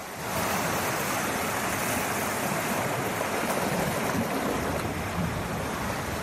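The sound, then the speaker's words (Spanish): Steady, rushing surf from breaking sea waves on the coast during unusually strong tides fills the scene, a dense continuous wash of water with no pauses or voices, loud throughout. “Se te achegas estes días pola costa e miras cara ao mar, verás que as mareas están máis vivas que nunca.”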